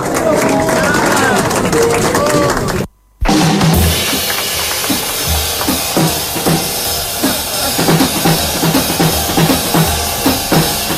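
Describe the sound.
A voice talks briefly, then after a short silence a live audience breaks into dense, sustained applause, loud crackling clapping mixed with crowd noise that carries on to the end.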